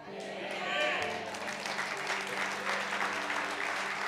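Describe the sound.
Sustained applause from a church audience, given in honour of Jesus during a sermon, a dense steady wash of many hands clapping for about four seconds, with faint voices and a low hum mixed underneath.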